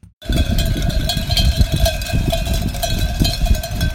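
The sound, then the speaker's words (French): Sheep bells clink and clatter continuously, many small bells on a flock of sheep in the countryside jangling at once in an irregular metallic patter, with a steady ringing tone and a low rumble underneath; no bleating or voices. “Bon, on les entend pas bêler, on entend juste leur clochette.”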